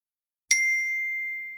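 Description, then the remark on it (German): A single glockenspiel chime on a high C, played back for a virtual toast, rings out after a moment of silence, bright and pure, sustaining and slowly fading, with another strike beginning just as it ends. “Kannst du nochmal so ein tolles Glockenspiel abspielen.”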